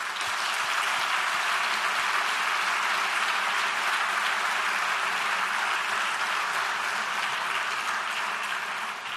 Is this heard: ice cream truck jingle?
no